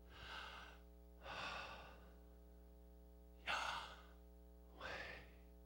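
Slow, deliberate breathing: four airy breaths in and out, evenly spaced with short pauses between, over a faint steady electrical hum and no talking, sounding out the name Yahweh as breathing sounds.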